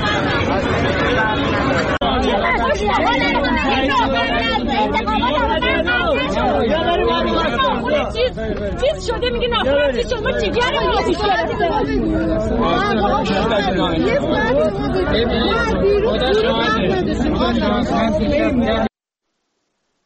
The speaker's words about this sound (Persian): بشنویم صدای مردم رو اگر آماده هست. اینجا اسلام شهر مردم ریختن بیرون به خاطر قطعی آب و برق به اینا خیابون و اصفهان کلا.